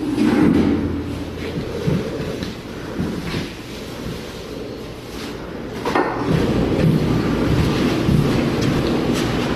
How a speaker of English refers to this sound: This is our newly renovated kitchen, with a lot of stainless steel, and a great feature is this new commercial dishwasher, which can do loads of dishes in 90 seconds.